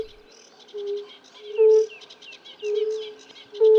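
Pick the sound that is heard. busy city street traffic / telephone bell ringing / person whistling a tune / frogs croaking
frogs croaking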